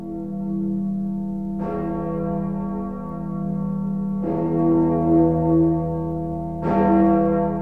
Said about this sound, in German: Die Freiheitsglocke von Berlin. Seit 1950 läutet sie jeden Tag um 12 Uhr mittags. Übrigens auch im Radio. Außerdem am 1. Mai, in der Silvesternacht und am Heiligen Abend.